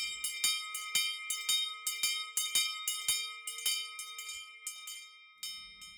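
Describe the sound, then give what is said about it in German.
A bell rung over and over in quick, slightly uneven strikes, each one leaving a clear, sustained ringing tone that hangs between hits. Fairly loud, with no voices. “Und die Glocke, die hat einen richtig schönen Ton.”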